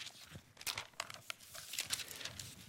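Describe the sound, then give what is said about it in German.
Pages of a Bible being turned and flipped to Genesis chapter 1, a series of crisp, papery rustles and swishes, quiet overall with no talking. “Genau, lass uns mal aufschlagen, damit wir das wirklich sehen, auch wenn wir es auswendig kennen.”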